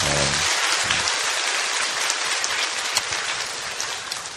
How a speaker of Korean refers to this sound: 우리 굉장히 수고 많이 하시는데 우리 격려의 박수 한번 했으면 좋겠어요.